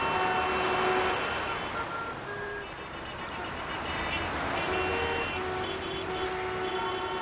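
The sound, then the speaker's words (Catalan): Dense, steady city road traffic in Barcelona, Spain, with the rumble of trucks, buses and cars, while several sustained horn tones sound over the continuous noise. “Barcelona circula cada cop més lenta.”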